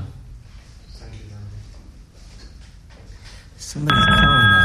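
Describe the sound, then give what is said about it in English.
A loud telephone ring from an incoming call bursts in near the end and continues steadily to the close, following a stretch of quieter background murmur of voices. “It looks like somebody's calling us.”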